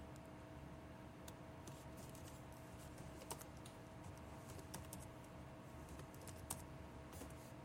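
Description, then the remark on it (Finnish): Steady, uneven keystrokes clatter on a computer keyboard, fairly quiet, with a few sharper clicks standing out over a faint constant hum and no talking, as someone switches to a Finnish keyboard layout to type the letter ä. “No, nyt pitää käyttää ensin suomalainen näppäimistö, mutta saadaan ään tuohon.”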